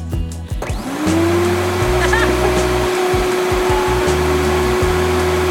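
A vacuum cleaner switches on, its motor whining up in pitch within a second, then runs as a loud, steady roar with a sustained hum and low droning tones underneath.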